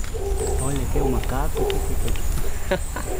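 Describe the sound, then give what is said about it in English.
A group of howler monkeys roars from the canopy of Costa Rica's Rio Piro rainforest, their deep, droning howls overlapping in a continuous chorus over a steady hiss of forest background noise. “Only a few steps into the forest, we hear a group of howler monkeys in the canopy.”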